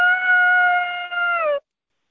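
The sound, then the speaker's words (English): A single sustained, high-pitched scream from a 16-year-old girl on the radio, loud, holding steady for about a second and a half before dropping slightly in pitch and cutting off abruptly. “Like, I want to do, like, horror films and, like, you know, get to scream and stuff. Like, you want to hear my scream?”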